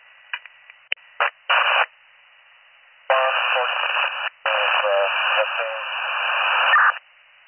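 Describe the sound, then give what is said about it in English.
Crackling static on a county dispatch radio: a few short clicks and bursts of hiss, then a long, harsh, band-limited transmission that is not getting through, with a garbled, unintelligible voice buried under the noise before it cuts off. “They're all static.”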